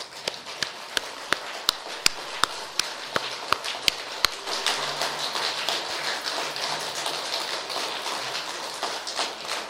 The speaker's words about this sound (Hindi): बहुत देर से सुन रहे, थक तो नहीं गए? नहीं, बहुत अच्छी बात है। अगर थक गए हैं तो एक बार खड़े होके दो तीन तालियां बजा दीजिए, फ्रेश हो जाएंगे। खड़े हो जाइए।